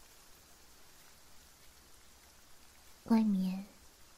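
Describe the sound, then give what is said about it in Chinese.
Steady rain falls outside a pavilion, hissing softly in the background throughout, a diffuse patter with no distinct drops, as a voice speaks briefly near the end. “还在下雨。”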